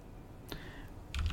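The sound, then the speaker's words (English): A couple of sharp clicks on a computer keyboard as someone looks up which Oscars Poor Things won, one around the middle and a quicker cluster near the end, fairly quiet against a low background hum, with no speech. “We're looking it up. You hear my keyboard.”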